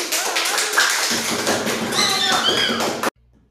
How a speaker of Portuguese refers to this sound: A infância de Romeu e Julieta. Aplausos!